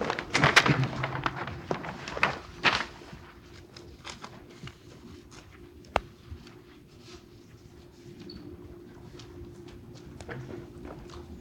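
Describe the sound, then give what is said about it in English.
Papers being shuffled as everyone looks up their exhibits during questioning: irregular crisp rustles and soft taps, loudest in a flurry at the start, then quieter scattered rustling with one sharp knock midway. No one speaks. “It's the usual shuffling of papers when everybody looks up their exhibits.”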